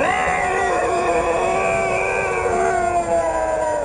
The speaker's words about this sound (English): Our eyes met. It bared its teeth, a huge mouth exposed, and yellow eyes narrowed in anger and rage. And again, it let out with a wailing, guttural howl.